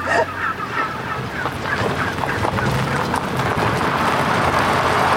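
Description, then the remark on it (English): A large flock of about 1,000 heritage breed wild turkeys gobbles and chatters nonstop after breaking through an electric fence, dozens of overlapping calls forming a loud, dense din that stays steady for the whole stretch. “You were almost assaulted by 1,000 turkeys.”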